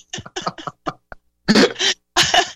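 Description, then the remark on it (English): A burst of harsh, rasping coughs: several quick short hacks, then three longer, forceful wheezy coughs in a row, as someone chokes on air and struggles to clear their throat. “I know how it feels to cough and to choke on air.”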